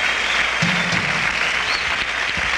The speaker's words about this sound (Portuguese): Aí o tecladista sendo super aplaudido pela massa.